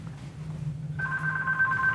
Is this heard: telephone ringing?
yes